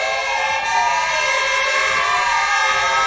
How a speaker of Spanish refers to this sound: El de las sirenas de los vehículos ante el Parque de Bomberos de la Montaña, que han recordado así a Eloy Palacio, el compañero fallecido en Oviedo.